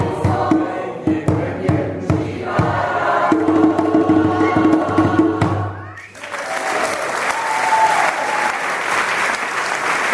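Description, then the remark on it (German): A concert audience in the stands claps enthusiastically during African songs, starting with rhythmic clapping over music and voices, then breaking into a dense, loud wash of sustained applause with scattered cheers. “Begeistert zu klatschen auf den Rängen, viele mehrheitlich zufriedene Gesichter vorne auf der Bühne.”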